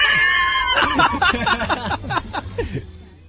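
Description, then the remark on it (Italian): A rubber chicken toy hanging from the roof of a gazebo tent squawks, starting with a drawn-out squeal and then letting out a rapid, uneven run of loud, honking squeaks that trail off toward the end. “In effetti l'idea di mettere un pollo di gomma appeso al tetto qui della tenda del gazebo non è stata un'idea, sì, come dire, che attira i bambini.”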